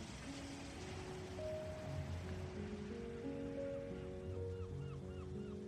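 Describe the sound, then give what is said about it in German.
Gentle ocean waves wash steadily onto a beach of fine white sand in a soft, continuous hiss, with mellow sustained musical tones playing quietly underneath and a few faint chirps near the end. “Das Rauschen der Wellen dringt sanft in dein Ohr, wie eine zauberhafte Meeresmelodie.”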